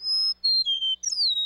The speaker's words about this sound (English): Today, rather than the roar of cannons, fields like Antietam are filled with the songs of blue grosbeaks. Eastern meadowlarks,